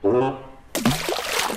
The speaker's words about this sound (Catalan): Que divertit que és tirar pedretes a l'aigua.